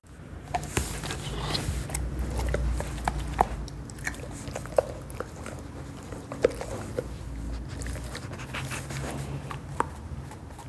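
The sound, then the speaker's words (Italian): A dog nibbles and gnaws at its fur, a steady run of quick, irregular little clicks and wet snaps over a low rustling background, with no voices. “Questo suono somiglia al mordicchiamento per le pulci.”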